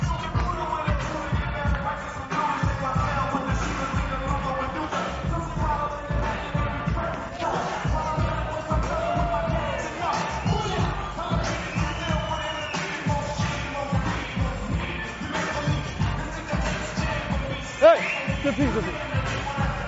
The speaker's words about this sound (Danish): Tak for, fordi I klappede med. Tusind tak.